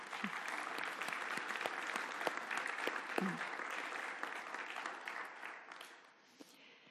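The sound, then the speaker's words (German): Sustained audience applause for the people who cleared the community garden of leaves, a dense wash of many hands clapping at steady volume for several seconds, thinning slightly toward the end, with a few faint voices mixed in. “Deshalb möchte ich euch, genauso wie gerade für die Technik, um einen Applaus bitten.”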